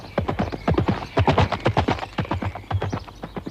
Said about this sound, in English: Dennis Moore, Dennis Moore, galloping through the sward. Dennis Moore, Dennis Moore, and his horse Concord.